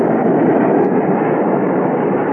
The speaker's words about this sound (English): Well, what's that? Oh, that's a jet taking off from the north runway. It'll pass right over the house.